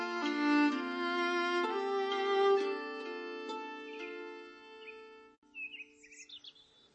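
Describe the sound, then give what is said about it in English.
A held, organ-like musical chord fades out, and bright bird chirps and twitters follow at dawn: a few quick, high calls, with no voices. “It was the nightingale and not the lark that pierced the fearful hollow of thine ear.”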